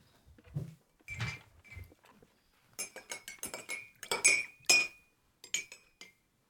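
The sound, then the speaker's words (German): Metal spoons are dipped again and again into three ceramic coffee cups, clinking and scraping in a quick, irregular series of bright, ringing taps, with dull knocks mixed in and a few short pauses between bursts. “Also ihr geht jetzt in diese 3 Tassen immer wieder mit euren Löffeln rein und habt euch relativ schnell”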